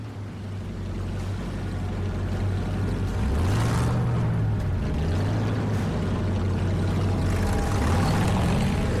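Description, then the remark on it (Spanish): A pirate boat's motor drones steadily over rushing water as it is driven to a bend in the river, its low hum rising and falling in pitch a few times as it runs. No voices are heard. “monta en un barco pirata y lo conduce hasta un recodo del río, lejos de la afluencia principal y donde no queda a la vista de futuros navegantes.”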